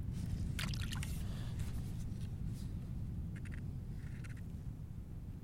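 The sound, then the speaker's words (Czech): Water sloshes and splashes in short bursts over a steady low rumble, with brief bright splashy surges now and then, as water is pushed back and forth to make waves, first big ones, then small ripples. “To se dělají největší vlny. A když se teď obu, a když se teď pořádný mají vlny. Teď se dělají vlnky.”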